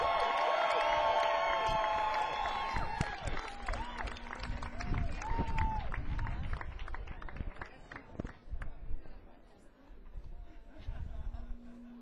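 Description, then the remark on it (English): An audience claps steadily for about twelve seconds for a band's trumpet, tenor saxophone, baritone saxophone and trombone players, with cheering and shrill whistles loudest at the start, then the applause thins out and fades unevenly toward the end. “Give a big round of applause, everybody.”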